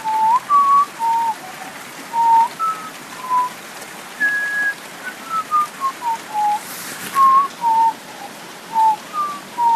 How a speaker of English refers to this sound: We're doing a podcast in the rain